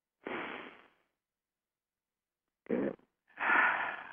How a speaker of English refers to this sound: So you're not sucking it in, keeping your belly flat. You're breathing in and filling your belly as if it were a little beach ball.